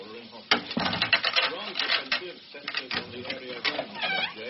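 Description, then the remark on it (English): A door thumps shut, then a metal chain rattles and clinks as it is slid off, followed by the door clicking open again, with a dense stretch of clattering, knocking noises throughout. “I have to shut the door before I can take the chain off.”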